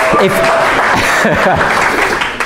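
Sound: applause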